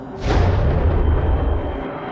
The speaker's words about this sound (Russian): Одновременно с этим он услышал мерный шум заработавшего реактивного двигателя.